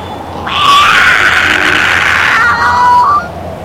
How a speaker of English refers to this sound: Abba, who screamed? Only an alley cat, her father reassured her. They aren't dangerous. They live near diners so they can eat the leftover food.